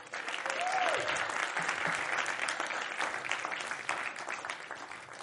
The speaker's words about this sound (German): Oder unsere Technik, die heute Morgen schon wieder voll parat ist. Auch ihnen dürft ihr gerne Applaus geben.